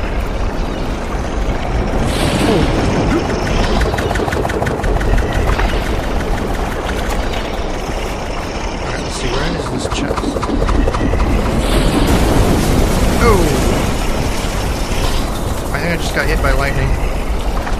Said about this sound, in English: So that's what happens when you get hit by lightning.